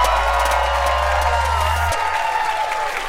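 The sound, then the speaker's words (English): A large crowd cheers and applauds continuously, a dense wash of clapping and shouting with scattered whoops, steady and loud throughout, with a low rumble that drops away near the end. “You guys are such a beautiful crowd. Are you guys having fun?”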